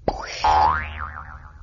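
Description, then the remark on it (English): A springy cartoon boing rings out after a sharp thump as a character is bounced away by an arrow hop, its pitch swooping up and then wobbling down in a fading vibrato, loud, with no voices. “Well, where did my arrow hop bounce me to this time?”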